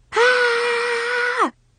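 person screaming in frustration

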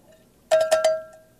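cowbell ringing

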